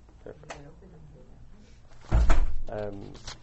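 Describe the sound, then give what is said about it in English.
A door opens with a solid thud and rattle about two seconds in, standing out loudly amid a man's ongoing speech before and after. “Can I talk about somebody open that door?”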